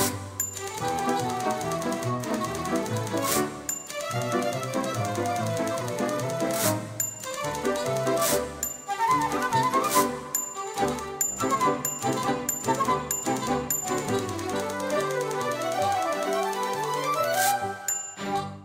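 Typewriter keys clack in quick bursts, broken every few seconds by a bright carriage bell ding, set against a busy, tuneful musical backing with no voices.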